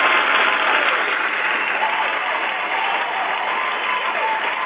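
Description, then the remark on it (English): A crowd claps steadily in dense, continuous applause that holds at a loud, even level for several seconds without letting up, with no voices heard over it. “Exciting, and we just want to give you a nice, warm welcome and round of applause.”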